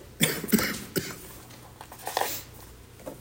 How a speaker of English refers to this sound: I have had whatever's going around, and while it's been 10 days, I don't think I'm contagious. The more I talk, the more I want to cough.